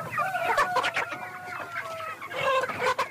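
A flock of chickens on a poultry farm in South Sudan clucking and squawking together, with overlapping calls and brief rising cries filling the space, steady, with no talking.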